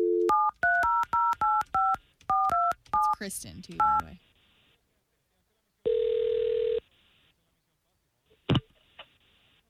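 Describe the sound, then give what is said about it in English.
A quick run of touch-tone keypad beeps as a number is dialed to phone a woman, then a single burst of ringing tone, a click on the line, and a brief voice speaking. “Well, I hope that she receives our phone call well, as we're going to call her right now, okay?”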